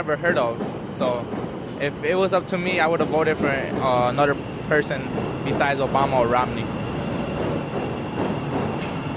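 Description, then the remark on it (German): Steady rumble and rattle of rail traffic, with trains passing one after another, heard beneath people talking over the noise throughout. “Zug um Zug fährt vorbei.”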